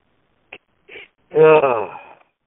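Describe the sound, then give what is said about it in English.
Two short breathy clicks, then one drawn-out meow with a rising and falling pitch from Snow, a big, furry cat. The sound is fairly loud and heard on its own without any talking. “For those who don't know, we got a cat named Snow.”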